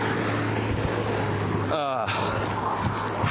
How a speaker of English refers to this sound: All right, I got double cars here. I'm going to get squished. I'll just let them have the road.